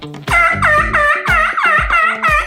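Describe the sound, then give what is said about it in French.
A slate turkey call, used for turkey hunting, sounds a loud run of about six raspy yelps in steady rhythm, each note rising then falling, with no voices. “Ou encore, j'utilise aussi mon ardoise pour faire des pures, des yelps et toutes sortes de petits sons.”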